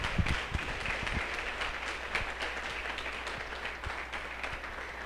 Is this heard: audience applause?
yes